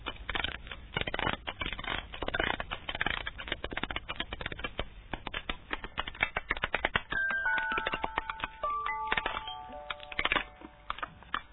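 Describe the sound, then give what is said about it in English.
A metronome being wound and set going: a dense run of sharp, rapid mechanical clicks and ratcheting ticks, with a few short high whistling tones near the end. No one speaks. “If you'll give me the metronome, I'll wind it up.”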